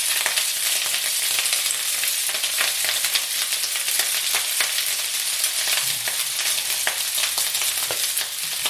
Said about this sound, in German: Jetzt kommt grob und da macht er eine Kelle Öl rein. So, ein bisschen anbraten. Jetzt haue ich das Gemüse dazu. Ja, da wird das hier so eine ganz bunte Mische.